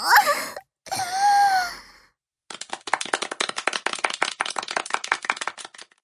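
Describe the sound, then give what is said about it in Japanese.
A short breathy vocal moan opens, followed after a brief pause by a crowd bursting into steady, dense applause that carries on with many overlapping claps until the end. “みんな、拍手してる。”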